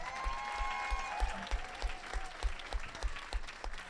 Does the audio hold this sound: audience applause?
yes